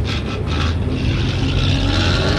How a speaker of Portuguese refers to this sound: Este é só mais um exemplo do que acontece em muitas cidades no Brasil. Apesar disso, Florianópolis ainda não tem nenhuma política de controle de ruídos do trânsito.